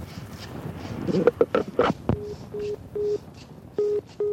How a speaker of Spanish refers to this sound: Qué bonito es el sonido del teléfono, ¿no? Ese sonido de ese teléfono como de góndola pesado, cotocloc, ¿no? Que le da esa calidad vintage a la grabación, ¿no?